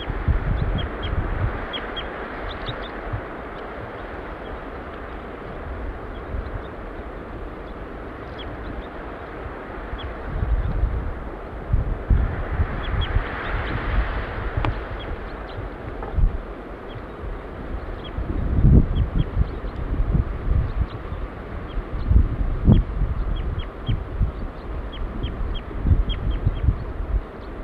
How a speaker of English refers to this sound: Female giving flight calls now.